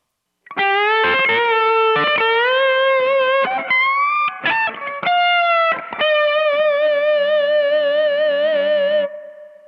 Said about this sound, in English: Here's the sound of a full-tone plimsoll overdrive with the delay switched off.